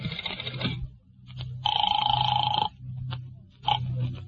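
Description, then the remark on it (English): A telephone rings as a call is placed to Hotel Harrison, in short, buzzing bursts, with one long, steady ring in the middle and briefer ones around it, over a low background hum, and nobody speaks. “Well, it seems to me the easiest way to find out would be to phone the hotel.”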